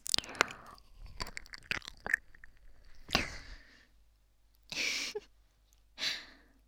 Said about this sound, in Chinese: 不行，我要再咬一口才能解气。